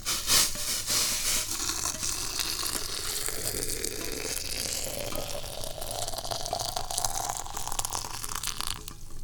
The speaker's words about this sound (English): A teapot that has some tea in it. So we're going to turn the heat off of the stove, and we'll pick up the boiling water vessel. And once again, you get to witness one of my trademark one-handed pours.